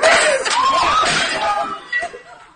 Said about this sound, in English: That's him knocking over the light pole. Yeah, it just completely falls over.